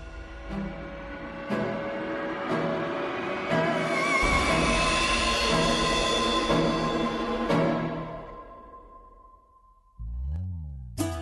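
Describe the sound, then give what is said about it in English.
Belgian stones from off the coast of Belgium tumble inside a rotating grinding mill, pulverizing graphite and clay into a fine talc for pencils: a dense metallic churning roar punctuated by regular heavy knocks about once a second, before fading and giving way to a brief different tonal sound. “what you hear going around in there are Belgian stones off the coast of Belgium, and they pulverize the graphite and clay”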